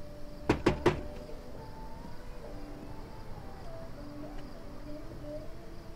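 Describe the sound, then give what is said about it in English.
A man knocks three quick, firm, fairly loud times on the door of a guest house at night, in fast succession, followed by a quiet stretch with faint background hum and soft tones. “He pauses outside the door, then steps up to it and knocks.”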